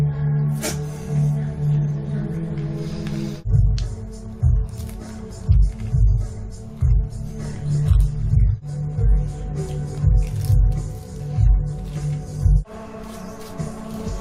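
Wet chewing sounds with a steady, rhythmic munching pattern over a low background hum, with no one speaking: a person eating breakfast.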